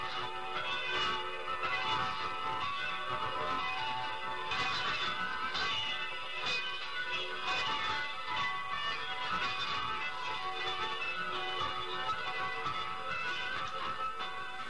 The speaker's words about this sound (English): And other times you may come across continuous bells that go on for as long as 15 minutes, which also indicate that a station is about to sign on the air.